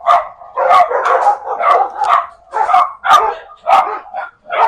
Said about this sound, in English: Now our neighbors are shouting at our dogs. So this is really frustrating. All the dogs in the neighborhood have come out here. You can actually hear him.